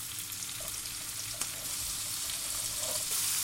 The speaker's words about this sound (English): I'm going to light this hob. Okay, that's sizzling nicely. Now what I'm going to do is I'm going to throw all these bits that I've just chopped up into the pan.